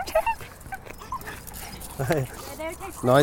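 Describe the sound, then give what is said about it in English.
A small male French bulldog whimpers, giving a few short, high, wavering whines in quick succession, with faint background voices and room noise underneath. “This is an amazing dog. Is this a Frenchie or a... He is.”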